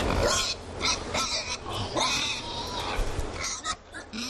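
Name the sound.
pigs grunting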